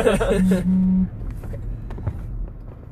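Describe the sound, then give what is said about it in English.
A phone buzzes in two short bursts against a hard surface inside a car as text messages arrive, a low steady hum over road rumble, with a voice briefly audible at the start. “So, sorry, I don't know if that was in the cup holder, but if anyone heard those vibrations”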